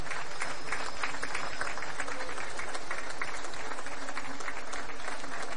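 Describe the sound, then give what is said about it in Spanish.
An audience at a fair applauds steadily, dense overlapping claps forming a loud, continuous wash of sound that holds at an even level throughout without any voices coming through. “Un fuerte aplauso”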